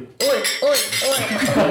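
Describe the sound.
Glasses clink together in a toast in Berlin, bright ringing chimes overlapping while voices murmur and talk underneath.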